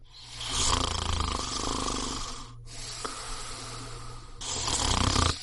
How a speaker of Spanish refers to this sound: Uf, ya está otra vez. Yo me lo cargo. Hay una solución más civilizada para acabar con los ronquidos y la apnea del sueño.